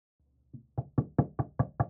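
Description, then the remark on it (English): Someone knocks on a door: a soft tap, then about six firm, evenly spaced raps in quick succession, loud, with no voices. “Will you just open the door?”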